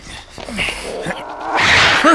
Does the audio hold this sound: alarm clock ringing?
no